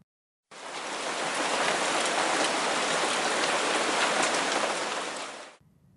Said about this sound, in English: By the time we reach the back steps, heavy raindrops have started hitting my forehead.